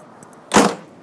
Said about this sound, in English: And we'll better shut the door.